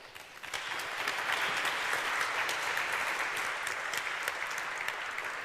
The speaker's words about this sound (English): Please welcome him with a huge round of applause.